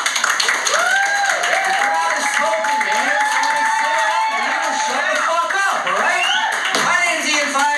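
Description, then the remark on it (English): An audience at a comedy show applauds and cheers loudly and steadily, with many voices shouting and whooping over the clapping for several seconds. “If y'all wanted to sit down or leave, round of applause.”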